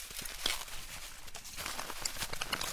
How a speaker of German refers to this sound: Der Bauer geht ein paar Schritte ins Maisfeld nebenan, bricht einen Kolben vom trockenen Stamm, entfernt die Deckblätter.